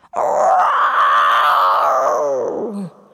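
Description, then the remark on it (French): A person roars like a dragon, one loud sustained growling cry lasting nearly three seconds, rough and throaty, sliding down into a gravelly rattle at the end. “C'est un dragon! J'ai jamais vu de dragon!”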